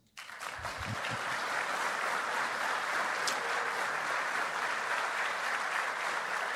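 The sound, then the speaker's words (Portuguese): A crowd bursts into sustained, repeated applause for Mendonça, Maria Helena and all present, a dense, steady wash of clapping that starts abruptly and holds at an even, fairly loud level throughout, with no voices standing out. “Houve uma ampla audiência para que surgisse o aplauso ao Mendonça, Maria Helena e a todos, que hoje aqui se ouviu. E que eu peço seja repetido.”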